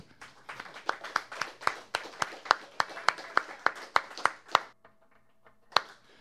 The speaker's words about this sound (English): I just want to give him a round of applause.